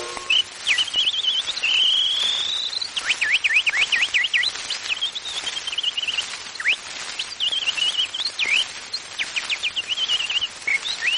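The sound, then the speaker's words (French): A person whistles an imitation of nightingale song: a continuous run of rapid trills, warbles and sliding high notes, fairly loud, with no talking. “Le rossignol entend le refrain que voici.”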